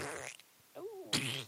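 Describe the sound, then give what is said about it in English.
Two loud fart sound effects, buzzy and sputtering, with a short squeaky, whining tone in the gap between them; no talking. “You think you're the Wony? You're not even the fart.”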